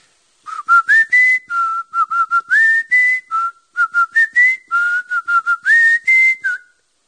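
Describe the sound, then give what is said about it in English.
A contestant in a Kevin and Bean show game whistles a song melody, a series of clear, bright notes in phrases, rising and stepping between pitches with short breaks, no talking. “He's going to try again and whistle.”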